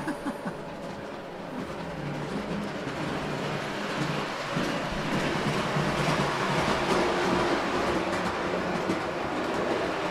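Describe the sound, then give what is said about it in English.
A train running into a station rumbles steadily for the whole stretch, a broad continuous roar with faint rhythmic clatter of wheels, holding a fairly even loudness without anyone speaking. “Let's see if you could bring it into the station and then turn it clockwise and stop the train.”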